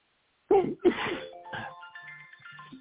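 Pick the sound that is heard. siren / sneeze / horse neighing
sneeze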